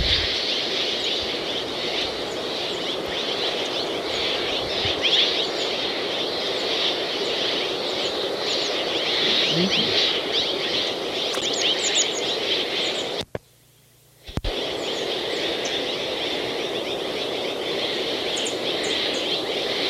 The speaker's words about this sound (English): This is a flock of Mexican jays behind the bridal titmice.